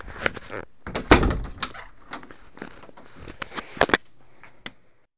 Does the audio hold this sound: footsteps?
yes